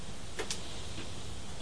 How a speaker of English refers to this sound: Can you hear rain now? Yes.